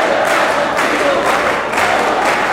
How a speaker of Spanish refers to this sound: Aplausos, ¿no? Todavía se sigue el aplauso y también los saluda entre las autoridades.